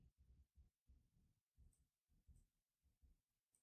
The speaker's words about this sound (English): I love the pause as we're typing.